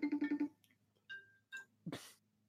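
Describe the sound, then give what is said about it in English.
A phone's electronic call tones during an outgoing call: a quick run of five pulsing beeps, then two short tonal chimes spaced apart, followed by a brief noisy burst near the end. Clear, no talking. “Like, I want to call him back because he does want to be on the podcast.”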